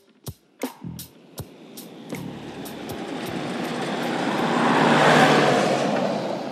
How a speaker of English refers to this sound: It's a really windy morning out there. Lots of dust blowing in my eyes and dust blowing everywhere. So I've just hopped into my car to get a bit of shelter.